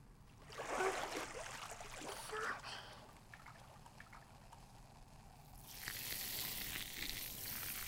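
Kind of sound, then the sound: sound effect, fizzing bubbly sound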